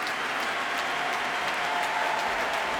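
A concert audience at the Proms applauds steadily for the orchestra and dancers, hundreds of hands blending into a dense, even crackle of clapping that holds at a constant level throughout, with no voices rising above it.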